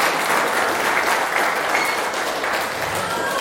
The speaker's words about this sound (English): Let us give God all the glory with a mighty applause.